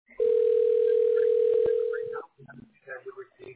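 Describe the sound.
A single steady ringback tone on an outgoing phone call hums clearly for about two seconds, then cuts off as a voice answers and starts talking.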